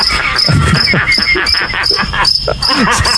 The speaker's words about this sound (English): How do crickets make this sound, first of all? Is it with their legs? They rub their legs together.